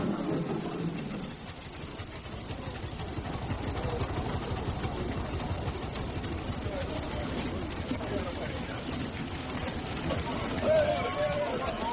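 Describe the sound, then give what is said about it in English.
Two steam traction engines arriving with 48 oxen rumble and chug steadily throughout, a dense mechanical din with a rapid rhythmic pulse and faint hissing, with indistinct voices murmuring beneath. “Two traction engines and 48 oxen reporting for duty, sir.”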